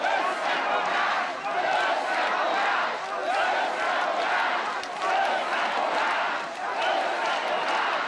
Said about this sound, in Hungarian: Az MSZP elnöke hosszú ideig nem tudta elkezdeni a beszédét. A tömeg hosszasan azt skandálta, összefogást.